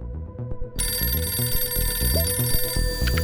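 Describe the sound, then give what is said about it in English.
A bright, sustained telephone ring kicks in after a brief beat and keeps going over a steady, rhythmic low-pitched musical backing; no one speaks. “And what you need to know is that for this week's spy, it all started with a phone call.”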